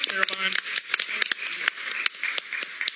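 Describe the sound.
A small group of attendees at a BISD board meeting claps for a few seconds after a motion is approved, a dense patter of sharp, uneven hand claps, with a brief voice at the start.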